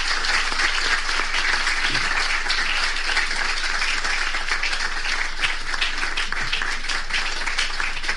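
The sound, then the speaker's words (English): Sustained applause from a large audience after a speech, a dense, steady wash of many hands clapping at once for several seconds, fairly loud, with no voices standing out. “Can we make that round of applause more?”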